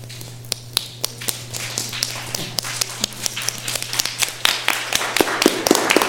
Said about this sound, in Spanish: ¿Cómo es el aplauso de la lluvia? Empezamos con un solo dedo y después vamos incrementando los demás dedos de la mano.